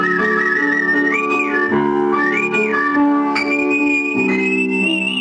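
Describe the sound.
Artistic whistling in a Radio Svoboda broadcast: a clear whistled melody glides between sustained notes, with smooth rising slides, carried over a steady instrumental accompaniment. No one speaks.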